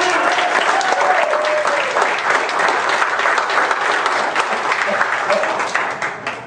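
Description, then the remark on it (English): A church audience stands and applauds loudly and steadily, a dense wash of many hands clapping at once that carries on throughout before easing slightly at the end. “See, they're all standing and clapping.”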